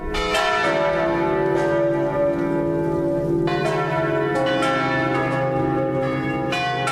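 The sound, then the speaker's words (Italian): Eight large swinging bells of the provost church of San Giuseppe in Grosio, Valtellina, Italy, ring together in a dense, overlapping peal, strikes falling in an irregular rolling rhythm with rich sustained overtones, loud throughout. “E con queste parole rassicuranti e soprattutto con questo concerto di 8 campane a slancio della chiesa prepositurale di San Giuseppe a Grosio in Valtellina, ritenute dai campanologi tra le più belle d'Italia,”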